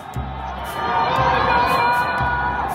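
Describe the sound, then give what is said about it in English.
Residents of Wuhan, China, locked inside their high-rise apartments during the January 2020 lockdown, shout and wail for help, a sustained, echoing chorus of cries rising and overlapping across an open urban space, with no clear individual speech. “Residents of Wuhan locked inside their high-rise apartments, screaming for help.”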